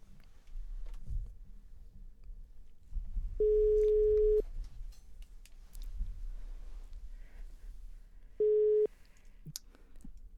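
A telephone ringback tone plays while a call is placed: two steady electronic beeps about four seconds apart, the second cut short, over a low hum with a few faint clicks.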